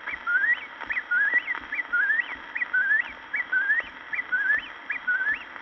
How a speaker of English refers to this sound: That was only a bird named the Whip poor Will. It is singing again.